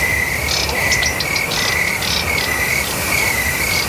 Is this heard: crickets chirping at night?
yes